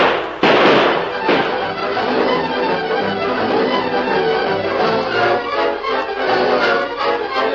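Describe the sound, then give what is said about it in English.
A loud volley of gunshots: sharp, overlapping cracks fire in rapid succession over a dense, rumbling wash of noise, with a few especially strong reports near the start. A group of men are shooting at a man fleeing on horseback. “Shoot at him, boys.”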